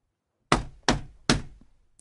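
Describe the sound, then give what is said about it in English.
A man knocks on a shop door three times in quick, even succession, solid, each knock with a short hollow decay, followed by a faint tap at the end. “Finally, he knocked on the shop door.”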